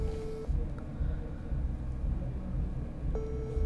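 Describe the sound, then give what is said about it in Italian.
A phone's ringback tone sounds over a speakerphone as a call is placed live on the radio: a steady electronic beep, a long silent gap, then the tone again, all over a low rumbling background hum. “Sta squillando, spero, ecco, ok, vediamo, si sta connettendo, mettiamo l'altoparlante.”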